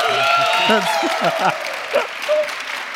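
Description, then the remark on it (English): An audience claps steadily for about three seconds as a vote for the game Under Night In-Birth Exe:Late, a dense wash of many hands at an even level, with several voices talking over the applause. “Clap if you think that.”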